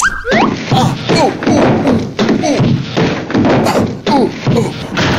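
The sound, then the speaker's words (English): At 3 o'clock in the morning, a person trips on a roller skate left at the top of the stairs and tumbles down: a clattering run of repeated heavy thumps and bangs, roughly one per second, with a voice crying out over the falls. “What you don't expect is the roller skate at the top of the stairs.”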